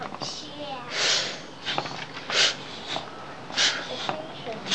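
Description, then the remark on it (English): A small air pump wheezes in rhythmic, breath-like puffs, about four or five hissing bursts with short gaps, fairly quiet. “She's breathing. This pump is breathing.”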